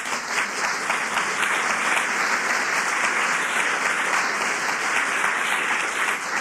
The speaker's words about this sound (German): Ach, das freut mich, dass Sie klatschen, ja.